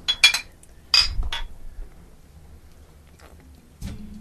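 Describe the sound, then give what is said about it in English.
Glass bottles of Speakeasy Big Daddy IPA beer clink together in a toast: a few sharp, bright taps bunched near the start, with a duller knock and some soft handling noise after. “Everyone got one? Fucking I do. Classy, man. Cheers. Salute.”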